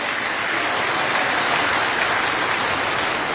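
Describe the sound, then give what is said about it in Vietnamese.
A large audience at a Buddhist vegetarian food festival applauds steadily, a dense, continuous wash of clapping that stays at an even, fairly loud level throughout, with no voices on top. “Trước những cái nghĩa cử vô cùng cao đẹp và thể hiện tấm lòng phát tâm hoan hỷ từ bi của tất cả các Phật tử gần xa đóng góp cho lễ hội ẩm thực chay hôm nay, một lần nữa chúng ta xin một tràng pháo tay tán thán tất cả công đức.”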